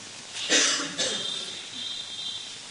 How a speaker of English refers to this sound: What can I say? I can cough.